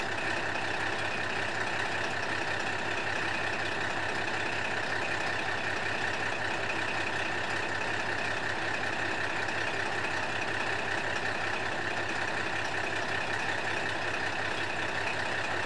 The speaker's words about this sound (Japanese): 続きまして、2日目の朝一で乗りました只見線のキハ40の音を聞いてもらいたいと思います。